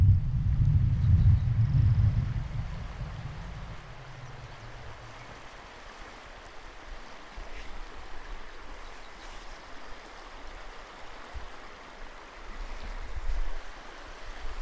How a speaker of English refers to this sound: This is the riffle at Indian Creek Canyon, right at the mouth of it.